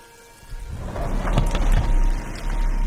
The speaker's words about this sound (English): I took a deep breath and walked through the revolving doors myself.